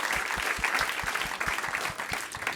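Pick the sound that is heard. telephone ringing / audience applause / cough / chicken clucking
audience applause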